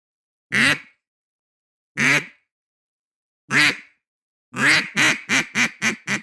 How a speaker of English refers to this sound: Okay, here it is. I'm going to start off with a quack, okay?